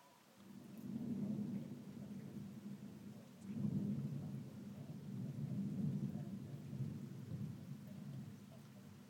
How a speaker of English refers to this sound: It's a big storm somewhere, but it's not quite overhead here at the moment. Oh, I think I saw the lightning then. It must have been bad for me to see that.